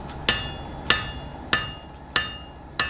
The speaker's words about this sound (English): He's making a tarasca, the Gaelic name for a peat iron, the heavy-bladed pole used to cut peat. The hammering is hardening the metal. It's making the blade rigid.